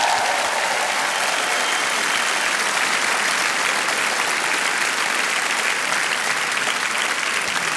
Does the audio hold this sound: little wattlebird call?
no